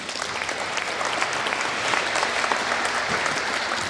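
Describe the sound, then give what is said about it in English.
An audience at Chaos Computer Camp applauds speaker Harry Halpin for four seconds, a dense, even wash of many hands at a loud, sustained level with no voices rising above it. “Please give a big applause for Harry Halpin.”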